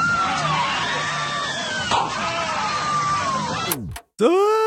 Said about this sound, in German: Und was mir natürlich besonders gut gefallen hat, das möchte ich gerne als Nerd einspielen, ist hier ist der berühmte Europa-Achterbahn-Schrei zu hören. Ich spiele ihn mal kurz ein.